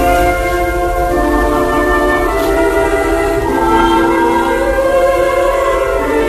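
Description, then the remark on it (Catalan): Church bells ring loudly and continuously, their overlapping tones blending into a rich, sustained peal that carries on without pause and with no voices present. “Doncs vinga, tothom al convent, que sonin campanes.”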